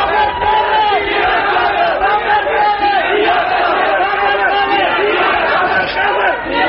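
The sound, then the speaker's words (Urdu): A large crowd shouts slogans together, many voices merging into a loud, continuous roar with rising and falling chanted phrases that carries on steadily throughout. “خیر یہ نعرے نہیں لگانے”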